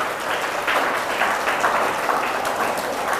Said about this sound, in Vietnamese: Cho một tràng vỗ tay lớn cho tấm gương hiếu học này.